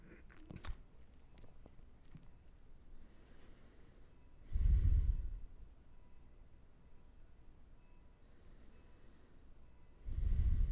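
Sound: slow deep belly breathing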